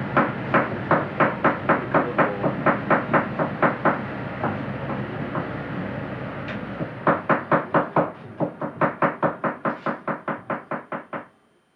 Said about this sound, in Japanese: 気仙沼湾に浮かぶ気仙沼大島の波の音、そして、気仙沼港の近くにあります食堂の朝の様子を聞いていただきました。